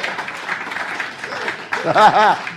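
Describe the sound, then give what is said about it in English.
Steady clapping from several hands fills the first part, a dense patter of quick claps, and then voices rise over it with sing-song, wavering tones near the end. “Please clap for me.”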